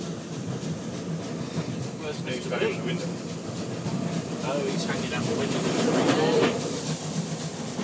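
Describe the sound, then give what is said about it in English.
An old, plush train carriage rumbling steadily along the rails from inside, with a continuous loud roar, rhythmic clattering over the tracks, and faint indistinct voices murmuring beneath the noise. “I do like these old train carriages. They're very plush.”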